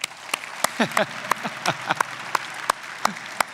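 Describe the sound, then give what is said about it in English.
Sparse, scattered clapping from an audience, individual claps landing unevenly rather than a full ovation, with faint murmuring voices underneath, as those who have used the tract Two Ways to Live clap. “If you've ever used that tract, just clap right now.”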